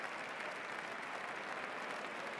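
Steady, dense applause from a crowd, a continuous wash of many hands clapping at an even, sustained level with no voices standing out.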